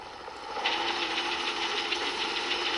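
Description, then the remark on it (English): A helicopter descends quickly and lands on an illuminated helipad on the Daily Planet's roof; its engine roars steadily with a fast, rhythmic rotor chop and rattling hiss, swelling slightly after the first half second and holding loud throughout, with no voices. “It descends quickly and lands on an illuminated helipad.”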